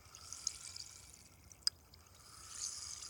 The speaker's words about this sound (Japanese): こちらのお耳も最初は炭酸綿棒さんで、シュワシュワパチパチ、さっぱりしよっか。